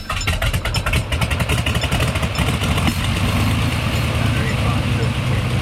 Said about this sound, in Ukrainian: Гул мотора щоразу дужчав, зростав.